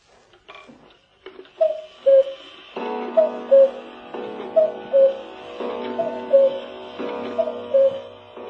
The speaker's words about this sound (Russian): Это стенные часы с кукушкой, с гирями. Изготовление швейцарской фирмы «Мозер». Меха у кукушек лайк, такая кожа, тончайшая.